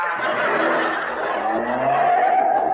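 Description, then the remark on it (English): A Town and Country car's engine revs hard and steady with a rising whine and a brief tire squeal as it speeds up the ramp of a multi-storey parking garage. “Boy, these town and countries are really fast, ain't they?”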